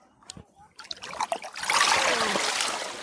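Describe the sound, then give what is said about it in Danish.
Water splashes and streams as a rope line with cultivated sugar kelp is pulled up out of the sea, starting with a few scattered drips and swelling into a steady, loud trickle of water pouring off. “Og hvis vi prøver at tage den line op her.”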